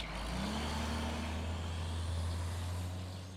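A pickup truck engine rumbles steadily, a deep continuous hum with a low tone rising slightly as it revs, no voices present.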